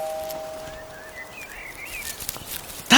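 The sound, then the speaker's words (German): Soft, scattered crackling rustles of leaves and branches build slowly, then a sudden loud burst of rustling breaks out at the very end as a cat jumps out of a bush. “Da raschelt was. Hä? Oh, es war nur eine Katze, die aus dem Gebüsch gesprungen ist.”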